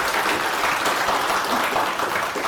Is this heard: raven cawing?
no